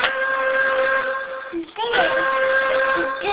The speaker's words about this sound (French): Le train. Oui, c'est le train. Le train. C'est le sifflet du train, ça. Tu savais?